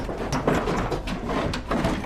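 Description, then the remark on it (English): A tool-room drawer is yanked hard by its handle, rattling and clunking in a few sharp jolts over a steady, noisy background hiss, with no voices. “In the tool room, Sabrina yanks on a drawer handle.”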